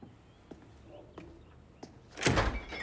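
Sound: refrigerator door opening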